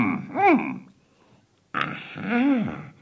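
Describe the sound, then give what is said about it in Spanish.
Two drawn-out snores, separated by a brief pause, each a voiced grunting rumble whose pitch rises and falls, like a voice imitating a small bug snoring beside the entrance of a little house. “Junto a la entrada de mi casita, veo a un bichito roncando.”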